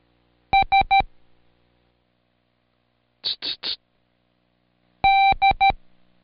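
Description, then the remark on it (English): Morse code beeps: three quick, steady, high-pitched tones, a pause, three short breathy bursts, then one long tone followed by three quick ones, fairly loud with no talking. “Now close your eyes and listen to the code and see if you can say the sound alike before I cue you.”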